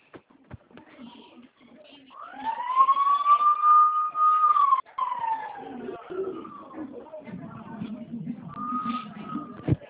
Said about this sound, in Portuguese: Poxa, a moto de som, né?